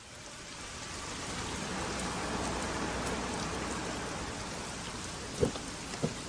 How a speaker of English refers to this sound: Jump in quick. It's pouring out there.